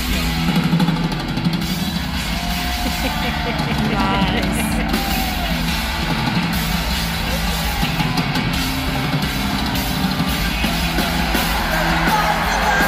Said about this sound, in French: Nice. Et la foule apprécie.